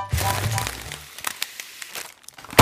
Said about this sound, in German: Das war der Knall einer Butterbrotpapiertüte. Ja, wenn die platzt, dann klingt das so. Für uns vielleicht erstmal Lärm, aber Lärm, das sind auch Schallwellen.